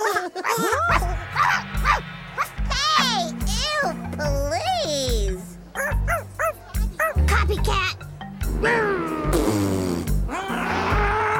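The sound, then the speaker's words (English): A voice, seemingly a child's, imitates a dog with a rapid string of yipping barks and whiny howls, loud, bursting in quick irregular rhythm over a low steady background tone. “And then the part at the end of the movie with a dog?”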